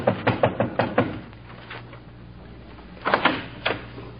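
Someone raps quickly on a door, about six sharp knocks in a row, then after a short pause knocks three more times, over a faint steady hum.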